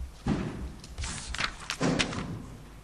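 A door slams shut with a heavy thud, followed by rattling and a second solid bang as it settles against the frame.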